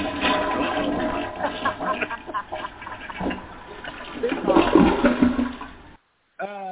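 A toilet flushes with a loud rushing and gurgling swirl of water that lasts several seconds, then cuts off abruptly, followed by a brief warbling sound.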